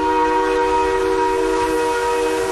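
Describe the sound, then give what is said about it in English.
A steam train, the Silver Bullet, starts rolling with coal shoveled into its boiler furnace; its whistle blows loud and steady for a few seconds, a bright layered tone held without a break over a low rumble of the engine. “They quickly got the train rolling again, with Reston pulling the levers in the engine car and Archer shoveling coal into the roaring boiler furnace that ran the great machine.”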